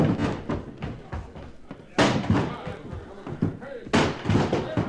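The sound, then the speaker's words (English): Men ram a door repeatedly to get it open: three loud, booming thuds land about two seconds apart, with muffled grunts and voices in the gaps between blows. “Okay, one more rush to get that door open.”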